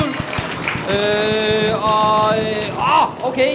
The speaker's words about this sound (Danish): Ja, og kan vi få en trommehjul?